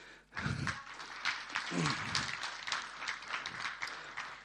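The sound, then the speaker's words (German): A crowd bursts into applause, many hands clapping in a dense, steady crackle that holds strong for several seconds, with a few low voices murmuring underneath near the start. “Super, Applaus.”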